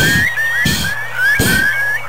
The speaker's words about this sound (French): On retrouve quelques spécimens du côté de l'Italie, mais c'est particulièrement à Montréal qu'on risque de retrouver la pintarde nocive. La pintarde nocive est très facile à reconnaître grâce à son cri.